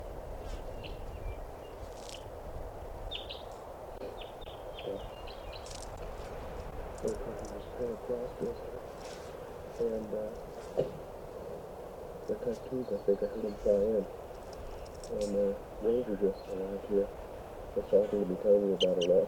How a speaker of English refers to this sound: Must be 20 birds.